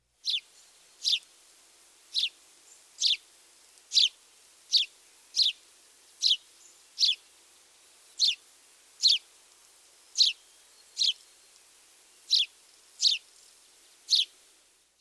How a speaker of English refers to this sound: It is fair to say that the house sparrow's chirps are unremarkable. Birders would do well, however, to learn this song. If nothing else, being able to recognize and eliminate it could save you many steps.